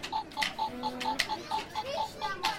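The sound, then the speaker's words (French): The timer of a Tic Tac Boom party game, played by boys, ticks quickly and steadily, about four crisp ticks per second, clear, with faint background chatter and noise underneath. “Voilà, ils vont faire une partie de tic-tac-boom.”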